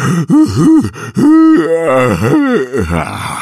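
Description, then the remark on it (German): A voice performs an exaggerated, drawn-out yawn imitating a sloth, with loud groaning tones that swoop up and down over a few seconds, with no speech. “Dann gähnt es sehr.”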